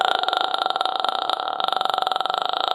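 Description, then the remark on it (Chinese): A sustained vocal fry demonstrated in a singing lesson, made by breath passing slowly through naturally closed vocal folds: a creaky, crackling voice of rapid low pulses that rattle steadily for almost three seconds, with no words spoken. “气泡音是我们声带在自然闭合，记住是自然闭合的情况下，气息缓缓经过声带所发出的具有颗粒感的声音，听感上像是这样。”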